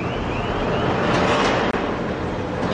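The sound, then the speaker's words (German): Container port ambience in Los Angeles, USA, as huge cranes move containers one after another from the deck of an anchored ship into the port: a steady, dense wash of heavy machinery rumble and hiss with faint whining tones from the cranes, loud and continuous, with no voices. “Die riesigen Ladekräne schaffen einen Container nach dem anderen vom Deck des vor Anker liegenden Schiffs hinüber in den Hafen.”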